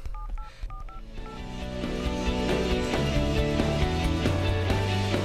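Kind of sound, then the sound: household object, telephone keypad dialing tones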